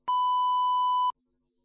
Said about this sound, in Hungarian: Halló, itt Bolgár György. A sípszó után kérem, hagyjon üzenetet.